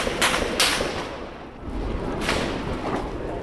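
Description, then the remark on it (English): Several sharp gunshots crack out at uneven intervals over a dense, rumbling background, two early in quick succession and another a couple of seconds later, without any voices. “And when we were trying to leave, the gunfire intensified.”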